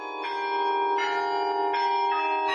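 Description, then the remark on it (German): Tower bells ring out over three octaves in a bright, sustained peal, new strikes landing roughly every three quarters of a second over a shimmering wash of overlapping tones, loud and resonant with no voices. “Den Glockenklang über ganze 3 Oktaven hinweg kann man jetzt aber nur noch unterhalb des Turms hören.”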